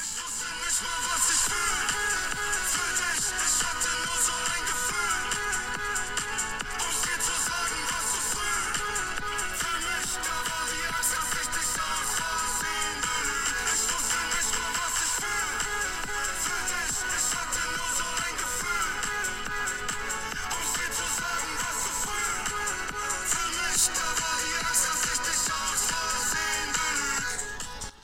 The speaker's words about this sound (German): Und kann ich hier reingeben, dass man nur die Hook hört. Das ist ja auch das Highlight, aber können wir schon machen.